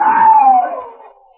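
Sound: man screaming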